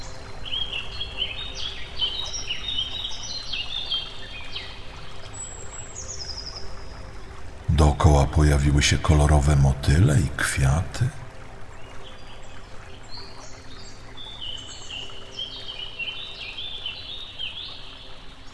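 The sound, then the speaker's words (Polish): Birds sing continuously with bright, high chirping phrases over a steady low hush, while a person speaks briefly partway through. “Zauważasz, że ptaki zaczęły głośniej śpiewać.”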